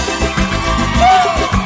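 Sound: audience shouting and cheering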